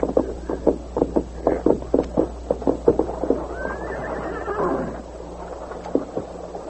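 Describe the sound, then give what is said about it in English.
A white horse's hooves clop in a steady rhythm as it is led to a spring in the hills of southwestern Texas, then it lets out a loud, wavering whinny before a few more hoofbeats sound. No one speaks. “A heavy-set, scar-faced bank robber and murderer named Buck Banner dismounted and led his white horse to a nearby spring.”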